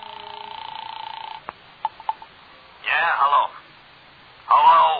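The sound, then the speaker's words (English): A telephone being dialed to call Villa 3 at the Wilshire Gardens: a steady dial tone hums, then a few sharp clicks sound in quick succession, followed by brief muffled bursts over the narrow, tinny phone line. “So I found a phone and called Villa 3 at the Wilshire Gardens.”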